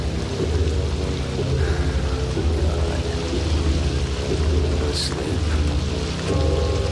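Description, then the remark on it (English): Steady rain falls continuously on a tarpaulin at the back of a boat, a dense hiss with a low droning rumble underneath and no clear pauses. “Chef lies under a tarpaulin in the rain at the back of the boat.”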